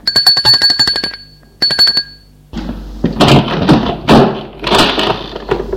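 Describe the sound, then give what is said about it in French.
A doorbell at a man's home rings in two rapid, rattling bursts of a high metallic bell, a longer one then a short one, followed by loud shuffling and rustling noises. “Il va enfin sonner chez lui.”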